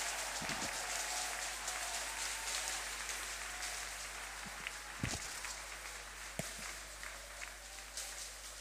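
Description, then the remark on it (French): An audience applauds God during a morning church service, a dense wash of clapping that holds at a fairly even level throughout, with a few sharper individual claps standing out, and no talking over it. “Ce Dieu-là mérite nos acclamations ce matin.”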